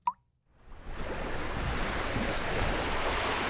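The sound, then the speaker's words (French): A short watery plop, then a swelling rush of surf that builds quickly and holds as a steady roar of breaking ocean waves, with no voices. “L'océan, c'est très grand.”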